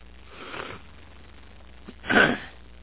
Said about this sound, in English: And you'll have to forgive me. I hope that my sniffling and throat clearing is not too distracting to you.